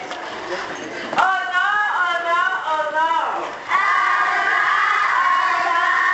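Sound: children shouting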